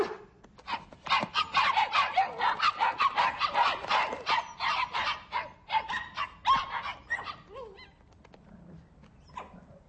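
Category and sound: animal, puppies barking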